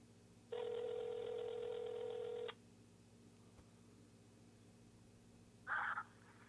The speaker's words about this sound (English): Dead air. All right, it's ringing.